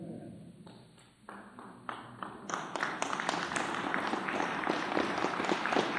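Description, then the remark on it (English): An audience starts a slow clap, a few sparse, separate claps at first, then more hands join until it thickens into steady, fairly loud applause. “That's a slow clap. Working our way into it.”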